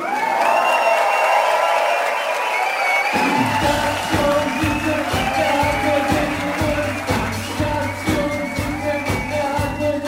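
Loud, thunderous applause from a large audience with scattered whoops and cheers; after a few seconds a steady low rhythmic pulse joins beneath the continuous clapping.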